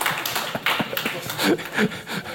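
An audience applauds an attendee who has never received a traffic ticket, a dense, irregular patter of many hands clapping at once, holding steady at a moderate level for a couple of seconds with no voices over it.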